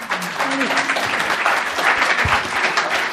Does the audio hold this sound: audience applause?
yes